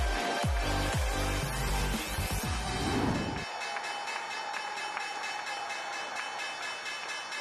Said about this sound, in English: There's the opening bell on this Tuesday, and that negative open that we have been watching for after the big whipsaw in the session yesterday.